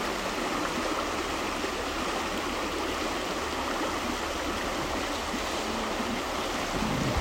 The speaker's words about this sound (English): Just enjoy the sounds of the water.